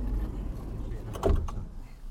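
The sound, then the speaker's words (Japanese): The door of a Senkōji-san Ropeway gondola slides open with a clunk and a brief whirring rattle over a low, steady machinery rumble, moderately loud. “扉開きます。”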